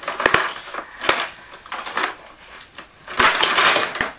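Ice being crushed and shaved in a small hand-cranked penguin shaved-ice maker, a steady grinding crunch with sharp clicks and rattles, loud, swelling in bursts with no talking.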